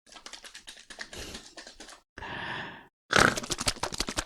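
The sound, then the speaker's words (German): A novelty can of pork in spicy aspic plays its laughing pig sound alone: rapid rattly, crackling bursts, then a short buzzy grunt-like tone, a brief pause, and a louder final run of harsh clicking snorts. “Ich möchte hier nochmal hier mein lachendes Schwein auf dieser Dose hier, das ich von Jonas bekommen habe. Können wir das Geräusch nochmal hören?”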